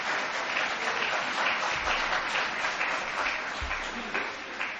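A crowd applauds steadily, many hands clapping in a dense, even wash of sound that holds at a fairly loud level without pause, with no voices rising above it.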